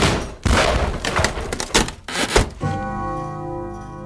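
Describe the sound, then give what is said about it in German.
Several heavy thuds and rattling bangs as a door is forced, with wood and metal straining, followed by a steady sustained tone ringing on after the struggle. “Ja, nun öffnen Sie schon die Tür.”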